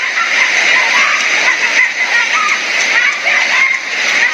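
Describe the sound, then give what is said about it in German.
A tsunami after a magnitude 7.5 earthquake surges with massive force over the beach promenade of the coastal town of Palu, sweeping away houses, containers, cars and motorcycles. The water roars and churns without pause, loud, a dense rushing torrent with faint, indistinct human voices buried beneath it. “Sie überspült mit ungeheurer Wucht die Strandpromenade, reißt Häuser um und Container mit, Autos und Motorräder werden fortgespült und die Menschen sind in schierer Panik.”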